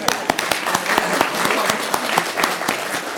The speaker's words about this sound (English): Clapping, but that's worth clapping about. Let's do it.